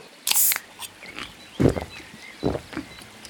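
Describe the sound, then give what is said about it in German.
A bear growls in a few rough, grunting bursts during a hike, starting with a harsh breathy huff and followed by two deeper snarls with short pauses between them. No one speaks. “Ah, lauf, dein Bär!”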